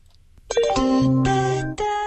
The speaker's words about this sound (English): Oh, yeah, in the subway. Yeah, keep your hands and feet out of the subway doors.